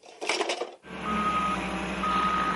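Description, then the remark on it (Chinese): A dump truck idles with a steady rumble while its reversing alarm sounds two long, evenly spaced beeps, preceded by a brief burst of rattling clatter. “Driving a dump truck, that's hard work.”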